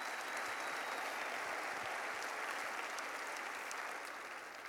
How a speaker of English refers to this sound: Go ahead and give the Lord a clap offering.